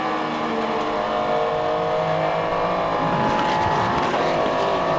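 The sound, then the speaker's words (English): Loud, throbbing race car engines at Sebring drop through the gears as they brake into the tight hairpin in front of the hotel, the pitch stepping down and then swelling again as they accelerate away. “Great to hear throbbing engine notes from Sebring down through the gearbox to the hairpin in front of the hotel.”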